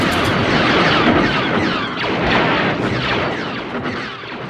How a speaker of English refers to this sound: He found this great wire out in the middle of the desert and took a contact microphone out and put it on the wire and started hitting it with a wrench. And what he got were the bass of the blaster sounds for Star Wars.